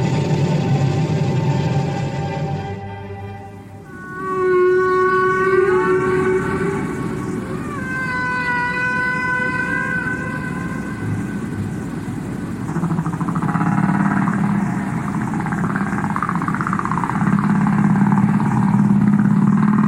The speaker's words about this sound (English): I think these are humpback whales.